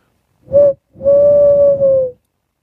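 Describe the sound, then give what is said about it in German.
A man imitates an owl's hoot: a short tonal call followed by a longer, steady drawn-out hoo, both loud with a breathy edge, and no other sounds around them. It is one of two imitated owl calls recorded as a jingle for a CD. “hat zwei Eulenrufe nachgemacht und die aufgenommen und als Jingle hier mit drauf getan auf die CD”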